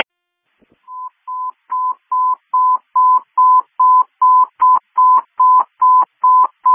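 A quick run of about fourteen short, clear electronic beeps, like telephone touch-tone dialing, pulsing at a steady, even pace. They are loud, with no talking.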